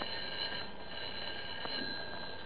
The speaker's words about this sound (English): I remember I went home about 2 o'clock. It was raining awful hard. And at 3 o'clock, the phone woke me up.